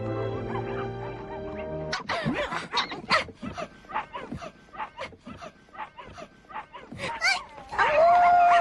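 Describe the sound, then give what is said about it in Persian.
A dog named Alu, who looks like a wolf, howls in a drawn-out tone out of excitement, then breaks into a run of excited yips and whimpers, ending on a high, thin whine, fairly loud. “علو عزیزم دست از روزه کشیدن بردار باشه.”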